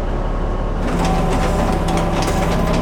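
A steady mechanical drone of a net hauler pulling in fishing nets on a 50-foot commercial fishing boat, the Three Suns, with a low engine rumble and a whining hum that rises after the first second, continuous and loud with no talking.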